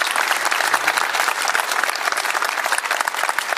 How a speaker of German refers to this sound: Also Respekt dafür, dass du dich stellst. Dafür gibt es auch Applaus.